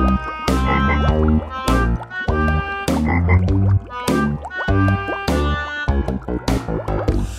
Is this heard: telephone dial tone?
no